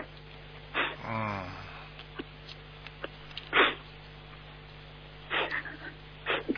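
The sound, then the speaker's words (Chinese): A person cries quietly, with a short wavering sob near the start followed by several sharp, wet sniffles spaced a few seconds apart, with no talking. “不要哭好吧？你一哭的话，师父改不了了。”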